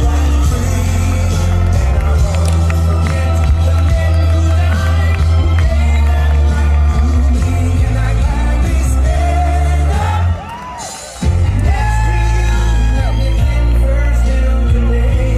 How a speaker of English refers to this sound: This is President Trump's crowd in the Midwest. Everyone wants the Trump foreign policy back. Rally after rally.